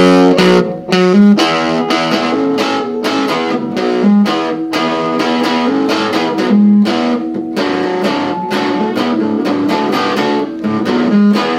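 A distorted electric guitar, a Flowcaster with the treble pickup through a fuzz pedal with level, fuzz, choke and crush set around 2 o'clock, plays a driving, repetitive Stones-like riff with choppy chords and thick, not very high-gain fuzz, loud, continuing steadily without any voices.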